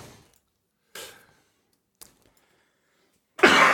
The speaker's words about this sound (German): Ich kriege hier gerade so einen Husten.